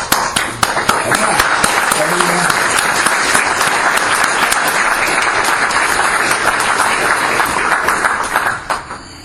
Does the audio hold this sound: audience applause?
yes